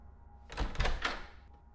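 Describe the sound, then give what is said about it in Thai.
A room door swings open with a couple of dull wooden thuds and a short rattling scrape, fairly loud, with no talking over it. “ผมพยักหน้ารับคำก่อนที่ประตูห้องจะเปิดออกเผยให้เห็นคุณหมอผู้ชายที่มาในชุดโค้ทสีขาว”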